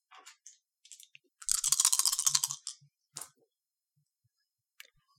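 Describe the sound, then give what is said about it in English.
Four dice, rolled for a body plus vigor roll in a tabletop game, rattle in a hand and clatter onto a hard surface, a dense burst of bright clicking that lasts about a second, then a few scattered taps as they settle and a faint final click. “Why don't you give me a body plus vigor roll. That's going to be 4 dice.”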